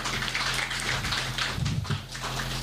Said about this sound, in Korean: 질문사항 없으시면 이제 1부 순서는 여기까지 마무리하기로 하고요. 다시 한번 이제 준비하신 이제 세 분께 한번 박수 한번 주시고.